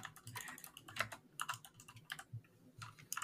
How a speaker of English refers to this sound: Now we got to Google it. Now I'm typing the Russian nanny.